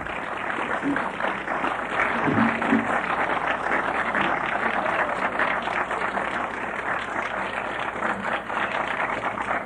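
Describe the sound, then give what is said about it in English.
A crowd claps steadily and densely for the full stretch, a sustained wash of many hands at a fairly even, moderate loudness with no voices standing out. “You can clap louder than that, can't you?”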